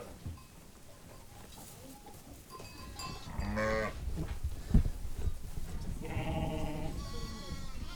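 Several sheep bleat over a busy farmyard background, their wavering calls overlapping, with a faint clank like a bell and shuffling movement throughout.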